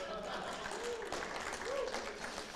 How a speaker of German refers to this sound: Wenn ich ehrlich bin, habe ich diesen Applaus nicht verdient.